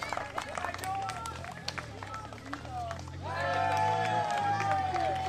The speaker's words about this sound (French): Allez, on peut l'applaudir bien fort.